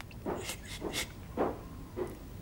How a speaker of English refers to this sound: Sister Bridget walks to the door and turns out the light.